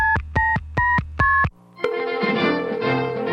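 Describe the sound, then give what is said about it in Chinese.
Four quick, evenly spaced telephone keypad beeps as someone phones a friend to hear their story with Liangyou Radio, followed by a brief low line tone and then a fuller, steady burst of sound. No one speaks. “好啊，我就打电话给这位朋友听听他跟良友电台的故事。”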